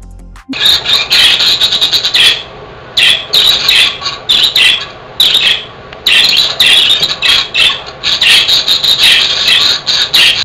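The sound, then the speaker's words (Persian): Budgerigars chirp contentedly in a steady, busy stream of high, squeaky warbles and tweets, loud and nearly continuous with only brief pauses, no people talking. “با این صدا مرغ عشق ها میخوان بگن که سالم و شادن و همه چی خوبه.”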